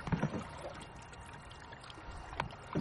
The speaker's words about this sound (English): There's something, just the feel of the paddle going into the water and just paddling at your own pace, and you can stop or start or whenever you like, you know.